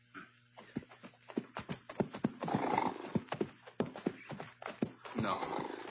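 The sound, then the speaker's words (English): A tired roan horse's hooves clop unevenly to a halt as it pulls up alongside a rider in the desert sun, sharp irregular knocks mixed with loud, breathy snorting bursts, with no voices. “Only when the dog-tired roan pulled up alongside him did Hoppy understand it.”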